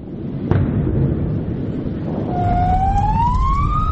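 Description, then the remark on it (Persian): A sharp bang early on during bombing in Gaza, then an ambulance siren winds up over a constant low rumble, its rising wail growing steadily louder through the last seconds; no voices. “بمباران، صدای آمبولانس و شیون بازماندگان.”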